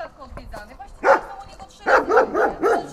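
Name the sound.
dog barking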